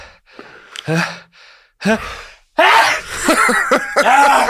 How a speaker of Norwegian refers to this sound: Jeg må nyse. Nå kommer den.